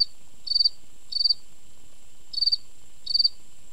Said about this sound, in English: And so the ones nearby go really kind of fast and high. They also are calling during the day a lot. And my crickets generally are calling either, you know, like immediately after dusk or right before dawn.